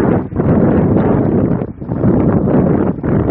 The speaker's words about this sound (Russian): А вот что фиксирует микрофон утром в польских Татрах.